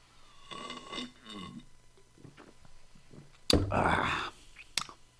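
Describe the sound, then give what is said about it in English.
Two burps after drinking kombucha, with a pause between them: a rougher, medium burp first, then a louder, longer, throaty belch, against faint background noise. “You got a no culture, that's why you burping.”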